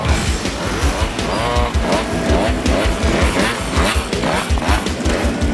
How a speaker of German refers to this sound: Das, was hier tönt, als würden die Kettensägen einen ganzen Wald umtun, sind hunderte von Töffli, die gerade von ihrer Tour durch das Glarnerland zurückkommen. Etwa 46 km sind sie gefahren